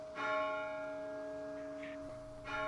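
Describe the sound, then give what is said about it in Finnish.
A bell of the burned church of Kuusamo is struck, its deep, resonant tone humming and sustaining with rich overtones before a second strike rings out near the end. No voices are heard. “Kuusamon poltetun kirkon kelloihin liittyy myös romanttinen tarina.”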